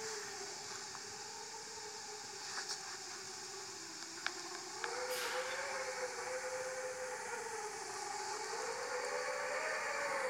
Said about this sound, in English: It was the sound of the wind howling. Was it like that here yesterday as well?